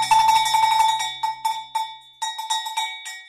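Saint Nicholas's bells jingle and clang in a rapid, irregular shaking rhythm, bright and metallic, with a steady ringing tone underneath; the jangling breaks into short bursts toward the end. No one speaks.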